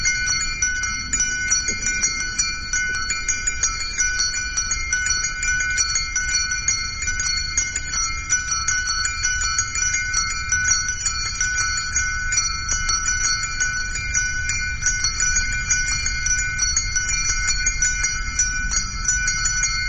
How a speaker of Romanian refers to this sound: Această rugăciune a clopotelor de pe discul oriental …